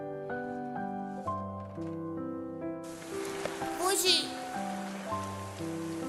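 rain falling

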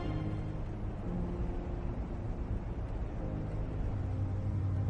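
car driving

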